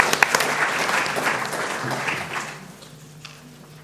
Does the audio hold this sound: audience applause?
yes